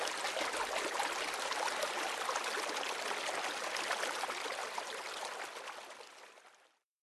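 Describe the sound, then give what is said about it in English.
Steady trickling stream water runs over moss, a continuous bright babble with fine splashing detail, holding level before fading out near the end. No voices. “Dawat water oozes from emerald moss.”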